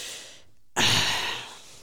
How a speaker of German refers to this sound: Das ist sehr anstrengend für ihn, deswegen atmet er so laut.